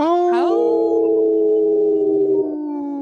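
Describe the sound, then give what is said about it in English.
Several people howl together like wolves, a loud, drawn-out wail that swoops up at the start and then holds steady for about three seconds before trailing off. “I didn't see Dr. Stately howl”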